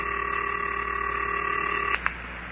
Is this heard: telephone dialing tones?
yes